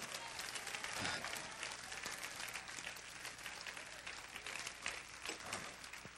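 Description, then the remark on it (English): A crowd claps steadily in dense, continuous applause, loud and sustained with no single claps standing out, while a few voices murmur and call out underneath. “Clap your hands and say yes.”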